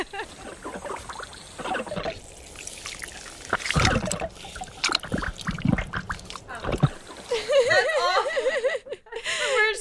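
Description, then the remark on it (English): Deep, wet gurgling from a worm scooting through its underground burrows, irregular sucking and sloshing bursts like water draining through a pipe, ending in a watery, bubbling warble, moderately loud. “In fact, they make a deep, guttural, gurgling sound, like water draining from a bathtub as they scoot through their holes, which can terrify people because you can hear it from the surface.”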